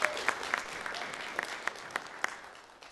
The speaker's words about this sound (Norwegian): Applaus.